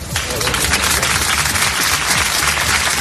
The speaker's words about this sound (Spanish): En esa misma parroquia donde ha sido despedido entre aplausos, Diego ejerció como sacristán durante 16 años y donde murió el miércoles por los machetazos que le propinó un hombre.